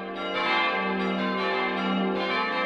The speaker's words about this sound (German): Denn die 5-Läute-Glocken hängen in einem Treppenturmaufsatz seitlich der Kirche und von der Hauptstraße aus nicht sichtbar.